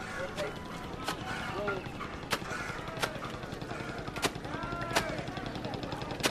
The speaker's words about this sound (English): There's a man doing laundry on a rock.